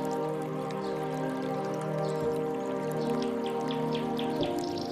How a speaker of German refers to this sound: Der Anblick des moosüberwucherten Felsvorsprungs, über das stetig neues Wasser in die Quelle rinnt, raubt dir kurzfristig den Atem.